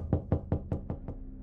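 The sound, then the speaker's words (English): Six steady, evenly spaced knocks on a heavy wooden apartment door at 12:30 a.m. on a Friday, deep and booming, about five per second, with nothing else heard and no voices. “on a Friday morning, I was woken up by a series of knocks on my heavy wooden door.”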